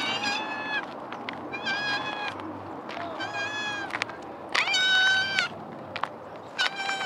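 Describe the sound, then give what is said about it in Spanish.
A cat meows repeatedly and insistently, a string of loud, drawn-out calls in quick succession over a low background rumble. “Este sí que este quiere, sí que quiere hablar. Algo. Diles algo”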